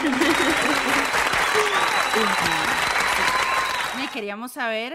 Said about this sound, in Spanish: Ahí es donde metemos aplausos de la academia.